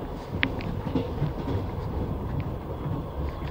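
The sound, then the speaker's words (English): A steady low rumble of train car 14 rolling along rails as someone walks through it, with faint rattles and a few brief squeaky clinks over the constant drone, and no voices. “Let's continue through our car now. Again, walking through car 14.”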